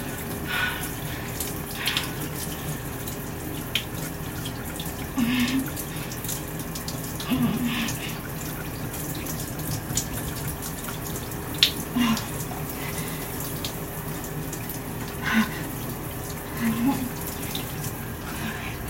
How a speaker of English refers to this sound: So, I'm in the shower, and I thought because of, I think, hitting 60 ounce subscribers, or is it followers? Of all things, I would do a little ramble fat in the shower.